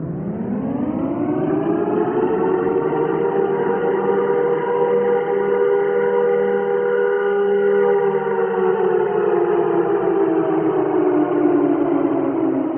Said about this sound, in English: This is a civil defense siren. It's a large outdoor warning system, and it's designed to alert the public to potential danger. It's a really ominous sound.